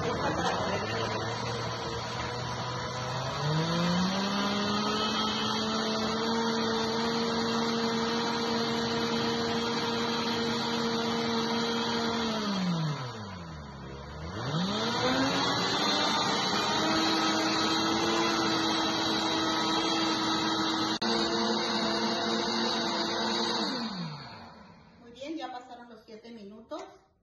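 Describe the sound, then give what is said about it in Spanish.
A blender motor whirs steadily in soup mode, cooking and heating a cream of broccoli soup, ramping up in speed, briefly winding down and back up midway, then cutting off near the end with a few clicks. “Y lo vamos a poner a cocinar en la licuadora.”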